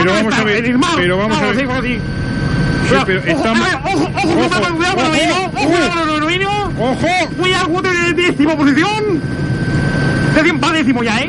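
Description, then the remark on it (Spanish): Engine and rotor noise from a sea helicopter drones steadily and loudly throughout, a constant mechanical roar sitting beneath continuous talking that never lets up. “Estoy en el helicóptero del mar, con ustedes todos.”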